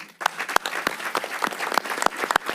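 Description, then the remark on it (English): A round of applause from a group of members for young Girl Scouts of Troop 601, steady dense clapping with sharper individual claps popping out irregularly, sustained at a moderate level throughout. “Members, I want to give these young ladies a round of applause.”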